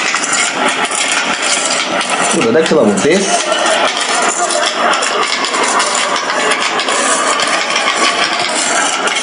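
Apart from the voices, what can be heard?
car engine running nearby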